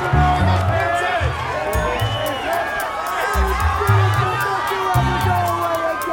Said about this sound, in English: She smiles and the crowd goes wild.